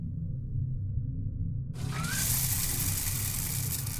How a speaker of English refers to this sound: Follow me and I'll get the hot water running.